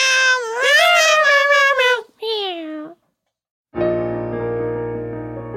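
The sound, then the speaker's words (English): A cat gives two loud meows: a long, wavering cry followed by a shorter one. After a brief silence, a steady sustained tone begins. “Can we have some of the dollars? Yes, cats, you can have some of the dollars. Meow, meow, meow.”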